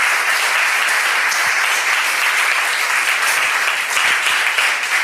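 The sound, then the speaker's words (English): A crowd applauds steadily for about five seconds, a dense, even wash of clapping with no voices standing out and no pauses or swells. “Please don't clap.”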